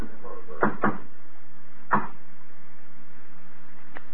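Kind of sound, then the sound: impact, knocking on a door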